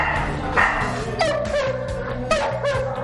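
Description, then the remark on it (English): A well-behaved dog awaiting adoption at an animal shelter gives a few sharp barks with a slightly whiny edge, spaced about a second apart over a steady low background rumble. “He wants to come out and play, and he's a super well-behaved dog.”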